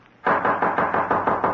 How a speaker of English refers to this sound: Suddenly, a loud knocking at his door startled him.